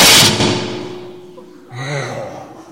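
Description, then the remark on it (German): A door slams shut with one loud, sharp bang right at the start, its boom ringing and fading over about a second before a brief voice sounds. “Der Sven knallt die Türe zu. Das gibt einen mächtigen Knall.”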